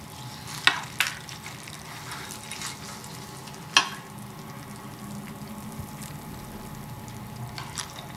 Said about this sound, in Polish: Bardzo powoli miesza łyżką zawartość miski.